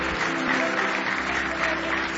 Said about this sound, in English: Give Him another big hand clap of praise if you love Him with all your heart.